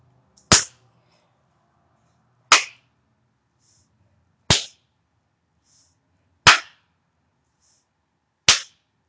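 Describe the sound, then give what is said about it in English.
Five loud, crisp hand slaps on skin land at an even pace, about two seconds apart, each a sharp smack with a short ringing tail and silence between. No one speaks. “Each slap, each sting makes my aching cunt pound.”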